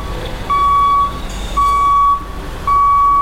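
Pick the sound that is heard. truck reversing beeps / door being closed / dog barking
truck reversing beeps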